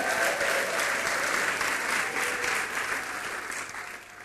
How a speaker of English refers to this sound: Whose first time is it here tonight? Wow. Let's give them a clap of hands again.